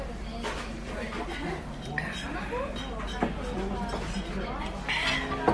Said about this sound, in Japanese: とりあえずじゃあ乾杯しましょうか。